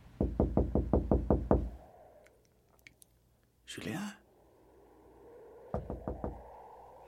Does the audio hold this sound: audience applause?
no